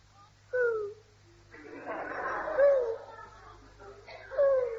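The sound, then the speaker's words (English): Three short, rising-and-falling whistled calls, like a bird calling from behind a privet hedge in a garden, come at intervals, with a burst of soft rustling in between. The calls are clear but not loud. “Hey, perhaps it's a bird.”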